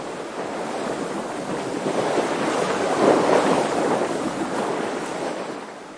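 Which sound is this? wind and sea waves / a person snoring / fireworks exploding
wind and sea waves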